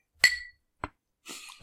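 A bright glass clink rings out sharply and fades as glasses are raised in a toast during a cola tasting, followed by a brief softer knock and then a light rustling clatter, all clear with no talking.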